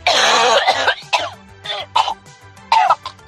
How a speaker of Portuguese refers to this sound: Acho que é tossindo, acho que é alguma coisa. Acho que é tossindo alguma coisa. Será que é? Eu acho que é.